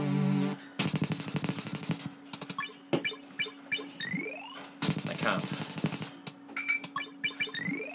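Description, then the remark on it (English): Slot machine game reels spin, moved forward by pressing the V key, with a rapid, rattling stream of clicks, interrupted by stops and short rising electronic sweeps and chimes over a steady low hum, then a second burst of fast clicking. “So hit V and you hear the reels go like that.”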